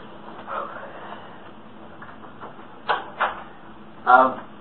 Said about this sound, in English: I'm going to go ahead and shut the door.